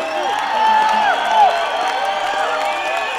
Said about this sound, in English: I think you should give him a little bit more applause.